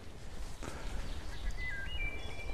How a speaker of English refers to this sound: Great sounds in the woods today. Yeah, birds are happy now that the rain has stopped.